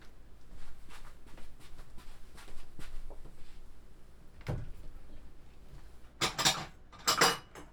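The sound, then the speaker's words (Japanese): Ceramic plates clink and clatter as they are brought to serve a freshly made stew, with scattered light taps, then a sharp knock midway and two loud bursts of rattling dishes near the end. No one speaks. “お皿持ってきますね。”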